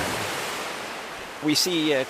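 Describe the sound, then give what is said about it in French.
A steady, rushing wash of churning water as a 10-metre-high steel wall moving back and forth makes storm-like waves averaging 1.1 m in a test flume, continuous and fairly loud, until a voice starts speaking over it near the end. “Vous voyez au bout du canal, il y a ce grand mur d'acier de 10 mètres de haut qui avance et qui recule. Et c'est comme ça qu'il crée des vagues.”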